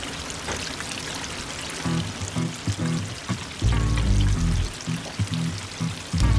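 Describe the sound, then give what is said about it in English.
Busy kitchen din at a KFC concept store in Hong Kong where fried chicken is made: a steady bed of sizzling and pouring, broken by repeated low thuds and clatters of equipment, with a heavier rumbling burst midway. No one speaks. “And we're in the kitchen. As you can hear.”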